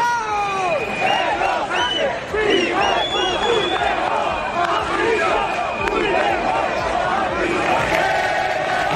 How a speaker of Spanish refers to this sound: en este 12 de octubre, donde los abucheos a Pedro Sánchez y los gritos contra Puigdemont.